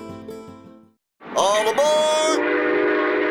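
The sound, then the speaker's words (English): After a brief musical passage and a short pause, a loud train horn blares with a slightly bending pitch, followed by the steady rumble of a passing train. “There's a new way to travel, and it's one of the oldest forms of transportation. Travel by train.”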